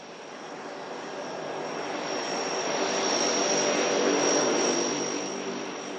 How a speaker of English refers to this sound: It's a sunny, warm morning at the Boise Airport. A shiny white and green plane slowly pulls onto the retardant-stained tarmac.